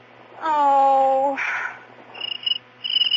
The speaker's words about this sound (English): I'm not coming back to this house until that cricket is gone.